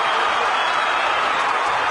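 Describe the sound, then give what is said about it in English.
A loud, steady roar of a basketball arena crowd cheering after the Stars tie the game at 70 to force overtime, a dense wash of many voices and shouts that holds without a break for the whole two seconds. “Listen to this crowd.”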